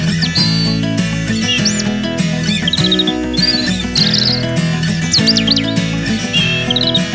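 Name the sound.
bird chirping and tweeting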